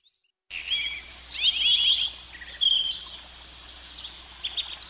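Birds chirp and trill in quick, high-pitched bursts over a steady outdoor hiss, the calls coming in several clusters with no one talking.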